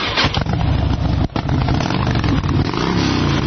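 A Harley motorcycle engine revs loudly, a steady deep rumble that stays strong throughout apart from one brief dip, with no talking.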